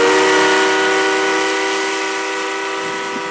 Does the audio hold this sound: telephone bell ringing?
no